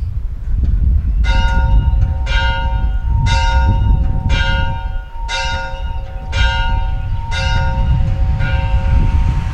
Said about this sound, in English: At what time ye hear the church bells ringing, I urge you to bow down, at least in your heart, and pray to and worship the one true God, the Lord God Almighty, our Savior, Lord, and King.